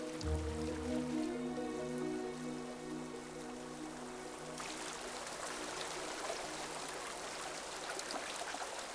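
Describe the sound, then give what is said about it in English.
River water trickles and babbles steadily across a dry riverbed, a continuous splashing hiss that grows clearer midway as sustained background music fades beneath it. “Riverbed acts like a giant strip of blotting paper, sucking up the water as soon as it appears.”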